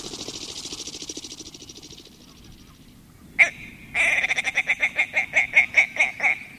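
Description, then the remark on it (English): A male tundra bird with white wings and a chunky, rusty body chuckles in flight, arcing over the tundra across the tops of the willows: a raspy buzzing opening, one sharp note, then a run of about ten rhythmic, pulsing clucks, fairly loud, with no talking. “Picture those white wings, propelling that chunky, rusty body in a long arc over the tundra as he chuckles his way across the tops of the willows.”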